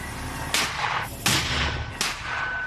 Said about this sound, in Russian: Сейчас мы находимся в одном из укрытий недалеко от позиции вооруженных сил Украины. Они ведут огонь по позициям, откуда ведут огонь по ним. Мы находимся в бункере, в укрытии, но взрывы слышны и отсюда.